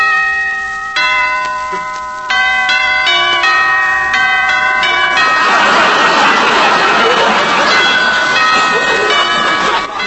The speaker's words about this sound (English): I don't know. I'll ring the bell and see.